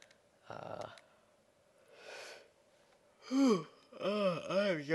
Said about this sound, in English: I'm yawning so much today. I don't know why. I can't even count the number of yawns that I've had today. It's utterly ridiculous.